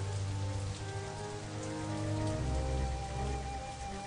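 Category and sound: nature, rain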